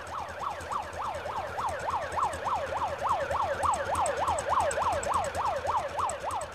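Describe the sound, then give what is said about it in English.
A police motorbike escort siren wails in a fast, steady yelp, rising and falling rapidly and continuously, as the escorting police motorbikes temporarily stop the traffic. It sounds loud, with a low rumble of traffic underneath and no talking. “They're escorted by police motorbikes who temporarily stop the traffic, but nobody seems to care.”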